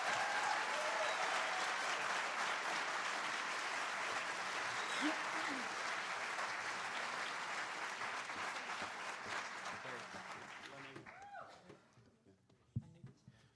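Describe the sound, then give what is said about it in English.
A large audience claps steadily and loudly for about eleven seconds for student folk musicians, then the applause thins and fades out, leaving a few scattered claps and faint voices at the end. “And I think these students who are doing positive things in the community and playing music and keeping the folk music alive deserve a big round of applause.”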